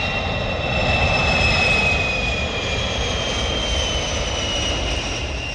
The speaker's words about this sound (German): Einen nach dem anderen. Sie kommen im 3-Minuten-Takt. Flüger, die zu Abend von Süden und vor allem von Osten her zu Kloten landen. Man versteht das eigene Wort nicht mehr, wenn wieder einer kommt, knapp über den Hausdächer.